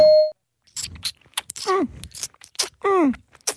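A single short, loud timer ding marks the start of a 20-second round, then cuts off and gives way to a string of groaning, gulping vocal sounds from a person imitating a baby drinking milk from a bottle.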